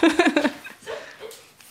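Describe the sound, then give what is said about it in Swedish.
A dog whines in a quick run of high, nasal yelps, then trails off into a few softer, drawn-out whimpers that fade toward the end. “Ska jag ta ut den? Ja, nu gnäller du för mycket.”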